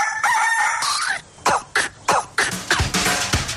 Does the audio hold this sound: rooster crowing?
yes